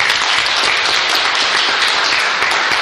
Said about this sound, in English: they deserve a round of applause and everything about what they've done and what they're continuing to do.